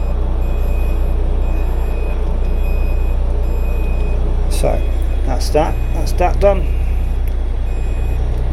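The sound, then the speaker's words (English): A GPS fix alarm on a boat beeps in thin, high electronic tones over a steady low drone of the boat's engines warming up, and a man speaks briefly near the end. “That alarm you can hear is the GPS fix.”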